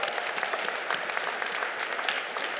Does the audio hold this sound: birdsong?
no